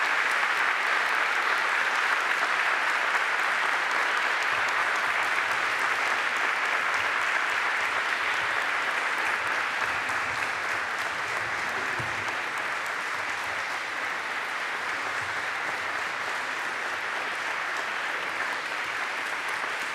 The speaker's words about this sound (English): Let us offer our applause by way of it.